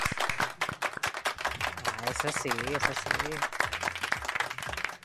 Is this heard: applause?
yes